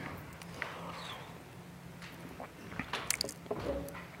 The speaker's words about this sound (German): Ich glaube, ich brauche erstmal einen Schluck Wasser.